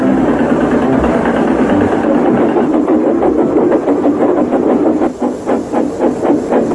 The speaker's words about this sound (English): Autumn had come to the island of Zodor. The fields were changing from yellow stubble to brown earth, and a tractor was hard at work as Thomas puffed along.